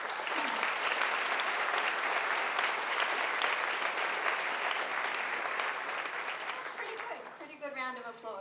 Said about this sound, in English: All right. So let's meet our panelists today. Let's start with a big round of applause.